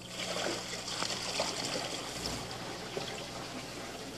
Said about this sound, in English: There. A lot of water. Yes, there is.